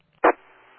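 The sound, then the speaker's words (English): A single short ding tone over a radio channel, heard while a transmitting station cut out, with a sharp bright onset that rings on faintly and steadily afterward. No one speaks. “You cut out for a second, I heard the ding again, and then you came back on, so I figure I'd just ask.”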